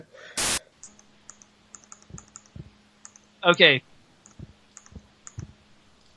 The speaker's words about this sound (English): I'm totally hearing those mouse clicks. Yeah, I know. What the hell are you doing? Playing Minesweeper? Bloody hell. Actually, that's the podcast. I'm playing Free Cell because it's, I don't know, I just think better.